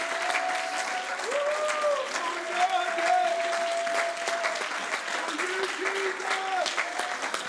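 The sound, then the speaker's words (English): A church audience claps hands in praise of the Lord, steadily and loudly for several seconds, a dense, continuous patter of many hands, with sustained voices calling or singing underneath. “Come on, clap those hands like you mean it.”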